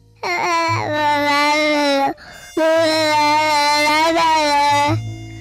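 A toddler of one and a half years, who does not yet speak whole words, babbles in two long, sustained vocal runs, high-pitched and loud, with a short breathy pause between them; wordless strings of syllables with a slightly whiny, cry-like edge.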